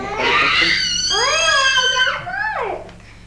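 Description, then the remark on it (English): A toddler lets out a loud, strained, high-pitched scream in frustration because he couldn't pick up a mat; it rises and wavers for about three seconds, then trails off in a falling wail. It carries no speech. “he's screaming because he couldn't pick up the mat”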